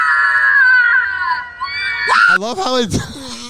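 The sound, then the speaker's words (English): A long, shrill recorded scream holds steady for about two seconds, then abruptly trails off and dies away, followed by voices briefly talking and reacting. “It was like the like battery died of like the annoying person screaming.”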